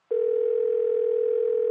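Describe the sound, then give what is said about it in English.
A steady, unbroken telephone ringing tone hums on the line for over a second and a half, clear and even in level with no voices. “It's ringing for you now.”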